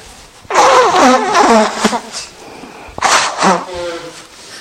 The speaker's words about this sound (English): Okay, let's meditate. Turn off cell phone, Geshe Michael. Blow nose.